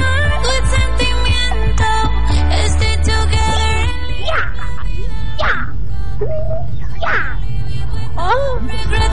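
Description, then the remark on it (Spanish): Dense music gives way to a series of high, sliding whines that rise and fall like a dog whimpering, three or four drawn-out cries over a steady low hum. “Eso era como un perro”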